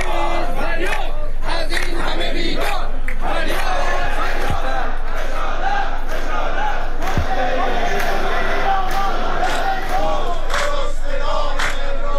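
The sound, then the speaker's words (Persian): Protesters and retirees chant loudly in unison at a street protest in Kermanshah, Iran, where they held a symbolic funeral for an empty tablecloth. Many voices rise and fall in a steady rhythmic cadence, with occasional sharp claps or thumps cutting through the sustained shouting. “در همین حال سفره خالی این بار در کرمانشاه به صورت نمادین از سوی معترضان و بازنشستگان تشییع شد.”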